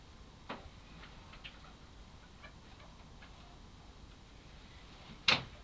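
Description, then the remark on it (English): Quiet, with a faint knock early on, then near the end a single sharp clunk as a chair is lifted, moved over and set back down. No one speaks. “Right, lift the chair over this way for me.”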